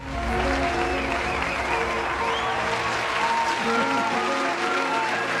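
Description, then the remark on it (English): Canned applause sound effect, played as a gift to a meteorologist on National Weather Persons Day: steady, dense clapping and crowd noise at an even, fairly loud level for about five seconds, with faint cheering tones mixed in and no pauses. “It was a very low-key collective woo. Yes. and some canned applause.”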